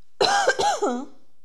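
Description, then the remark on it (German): A short bout of coughing, three or four quick voiced hacks run together in under a second, with a rough throaty edge and no talking. “Ich muss einmal husten.”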